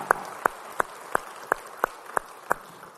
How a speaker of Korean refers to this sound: 예, 우리 찬양의 박수, 주님께 영광의 박수 올리겠습니다. 할렐루야, 할렐루야.